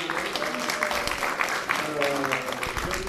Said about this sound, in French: Alors c'est là qu'il faut bien les applaudir aussi.